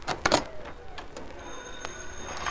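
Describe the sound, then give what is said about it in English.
A few sharp knocks and clatters, then a steady high-pitched telephone ring sets in and continues to the end, moderately loud, with no one speaking; the phone is ringing in Brett Reed's apartment as he arrives. “The phone was ringing when he arrived.”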